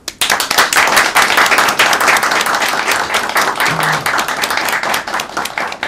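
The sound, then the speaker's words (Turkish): Sustained applause from a crowd for medal-winning wrestlers, dense overlapping clapping that stays loud and steady throughout with no pauses, filling the whole stretch without any voices standing out. “Yalnız pehlivanların tabii tek tek alkışlanması gerekiyordu.”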